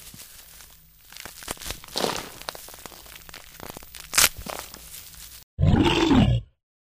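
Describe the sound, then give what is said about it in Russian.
Crunching, rustling movement for several seconds, then a sudden loud brown bear roar lasting about a second before everything goes quiet. “Да, это был настоящий бурый медведь, который, видимо, спал и почему-то проснулся.”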